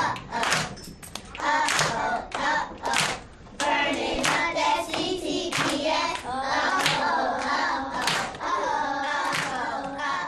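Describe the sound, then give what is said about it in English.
Sharp hand claps strike in a quick, steady rhythm throughout, loud and crisp, while voices join in a sing-song chant that continues under the clapping. “5, 6, 7, 8, clap.”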